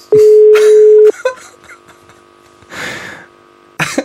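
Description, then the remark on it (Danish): A telephone call being transferred: a loud, steady electronic tone holds for about a second, followed by faint clicks, a burst of breathy noise, and another short tone at the end, like a phone line being switched. “kan du, kan du lige stille mig igennem til flødenæbe? Lige et øjeblik.”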